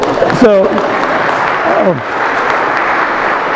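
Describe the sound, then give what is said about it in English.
A crowd at a Christmas midnight Mass held in a gym applauds for Jesus entering the world, a loud, steady wash of clapping that lasts throughout, with a couple of brief voiced shouts or cheers rising above it early on. “So we'll give that applause for Jesus entering the world.”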